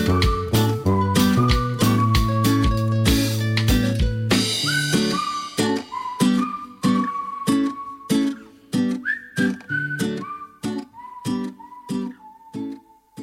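A whistled melody glides and sustains clearly over a song with a steady, punchy beat and bass, with no voices, the tune carrying up front through the whole stretch.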